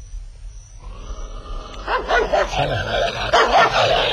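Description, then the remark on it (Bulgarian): A dog barks at its owner in a rapid run of harsh, agitated barks mixed with throaty growling, loud after a quieter start, with no talking. The dog has gone rabid, with dull eyes and foam dripping from its muzzle. “сайбията си лаеш.”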